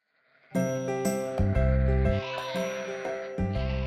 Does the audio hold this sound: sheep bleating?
yes